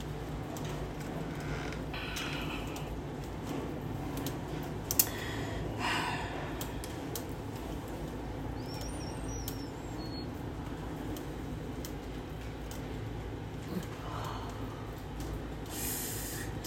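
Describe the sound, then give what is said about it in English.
Steady rain hisses without a break, a dense wash of noise scattered with sharp little ticks and drips throughout. No one speaks. “Sound of the rain.”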